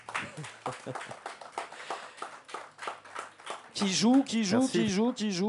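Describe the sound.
A few hands clap in an uneven, scattered burst for a few seconds before a loud, expressive voice starts talking over the fading claps.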